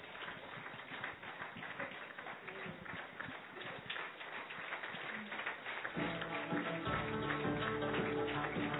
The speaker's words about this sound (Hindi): स्वागत तो हो गया और हम सबकी तालियां भी बज गई, तो अभी हम ताली थोड़ी और जोर से बजा दीजिए और एक हाथ की ताली भी बजा दीजिए।